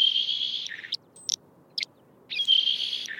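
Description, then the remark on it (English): A saltmarsh sparrow's dry, hissing song: a buzzy wheeze, a pause with a few sharp ticks, then the raspy buzz again. Clear with no voices, over faint background hiss. “Salt marsh sparrow.”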